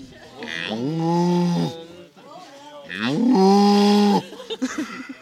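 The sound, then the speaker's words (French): A man's voice imitates a cow, letting out two long, loud, drawn-out moos separated by a short pause. “si tu entendais ces tels meuglements à un moment donné de la réalisation sonore, comment tu réagirais ?”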